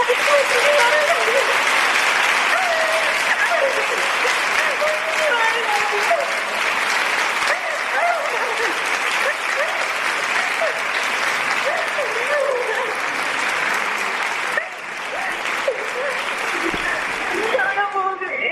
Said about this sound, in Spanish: Bueno, enhorabuena, tengo aquí a todos los presidentes de Fallas, están todos, están aquí todos y me piden que te transmita pues su felicitación, un beso muy fuerte y sobre todo quieren que escuches este aplauso que te mandamos todos.